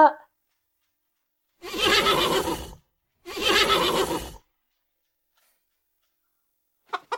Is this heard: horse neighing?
yes